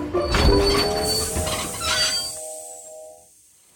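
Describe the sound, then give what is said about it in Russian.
A train going too fast rushes along the rails with a loud, rumbling clatter and a high metallic squeal, then the rumble drops away abruptly while the squealing tone lingers briefly before fading out. “Скоро должна быть остановка, но поезд едет слишком быстро.”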